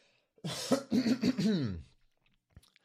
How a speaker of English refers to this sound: I'm a really poor broadcaster. Yeah, more coughing.